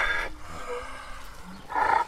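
A donkey with a long-haired coat, a shaggy black mane, a stocky head and very long ears brays hoarsely, hard to recognise as a donkey's hee-haw: two loud, raspy calls, one at the start and one at the end, separated by a quieter, breathy stretch. No one speaks.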